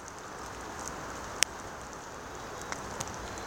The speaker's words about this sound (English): So I went on an explore down 140 to Pond Street and to the old town sewer beds off Pond Street. So in the background, I think you can hear the traffic on 495.